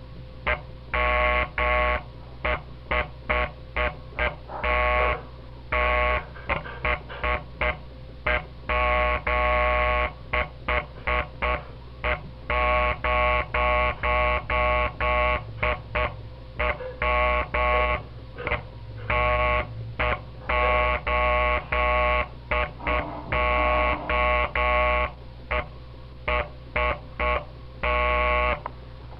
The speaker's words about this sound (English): That is the Morse code.